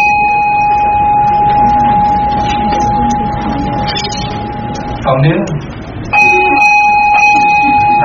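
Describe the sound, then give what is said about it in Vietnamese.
The bell of a village communal house, not a pagoda bell, rings with a steady, sustained metallic tone that breaks off briefly and then resumes, loud, while a person talks over it. “chuông này là chuông của đình, không phải chuông chùa.”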